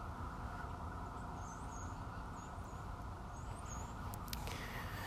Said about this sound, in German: Ja, du hörst jetzt Polizeisirenen in Tennessee und die Rotkardinäle, vermute ich mal, und andere Vögel, die ich nicht kenne, laut zwitschern.